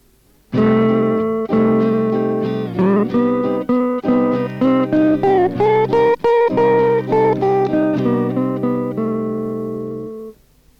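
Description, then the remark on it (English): An improvised electric guitar solo with effects plays fluid melodic lines over a steady C minor backing rhythm track, freely interchanging the flat seventh (B flat), major seventh (B) and sixth (A), loud and sustained for about ten seconds before fading out. “In this next example, I will improvise against the C minor rhythm track, freely interchanging between the flat seven, B flat, the major seven, B, and the sixth, A.”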